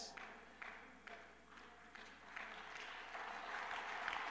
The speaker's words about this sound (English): Thank you for that golf clap.